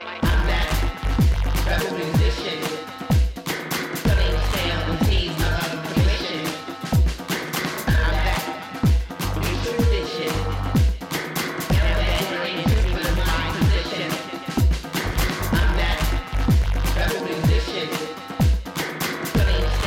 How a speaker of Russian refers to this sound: вполне танцевальная музыка, куда более стилистически свободная, то есть всеядная и незажатая, чем, скажем, британский грайм или обычный хип-хоп. Она легко свингует, несмотря на свою тяжеловесность.